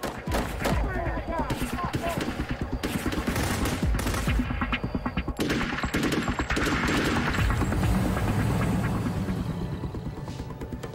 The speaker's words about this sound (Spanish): La policía piensa que el ataque fue lo que denominaron un robo al estilo ninja, en el que hombres armados enmascarados invaden una casa para robar drogas o dinero. Dispararon más de 50 rondas hacia la casa.